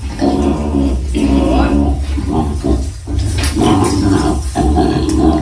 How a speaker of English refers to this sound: Listen to this audio. This is actual audio from Australia of them taking this koala out of the tree.